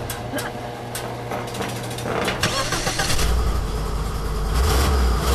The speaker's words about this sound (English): Ooh, big block. Ford right there.